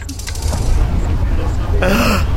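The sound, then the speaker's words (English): An eerie, otherworldly sound said to come from the galaxy M87: a steady low rumble under a wash of hiss, with warbling, throaty harmonic tones that swell and bend in pitch toward the end. “The sounds from M87.”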